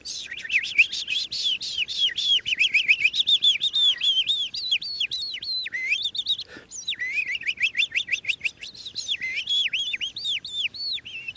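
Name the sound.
songbird singing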